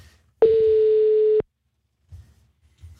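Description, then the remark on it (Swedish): A single steady telephone ringback tone on an outgoing call to a listener, loud, lasting about one second before cutting off, followed by faint low rumbles of background noise. “Vi ringer rätt nu, hoppas vi.”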